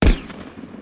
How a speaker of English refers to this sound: Without another word or thought, I turned and ran back towards my truck. I didn't make it two steps before another gunshot split the air.